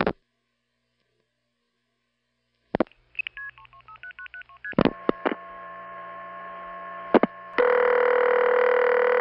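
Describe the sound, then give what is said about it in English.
A rapid run of touch-tone dialing beeps of a telephone number, then clicks and a steady multi-tone telephone line signal as the call goes through, rising to a loud, sustained tone at the end. No one speaks. “After I would dial the last digit, I'd hear something like this.”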